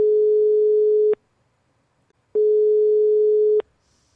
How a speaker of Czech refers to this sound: Tak a voláme. Jak slyšíte, telefon vyzvání. Necháme to zvonit ještě chvilku.